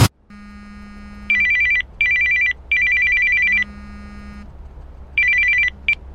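telephone ringing

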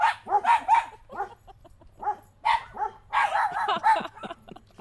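dog barking

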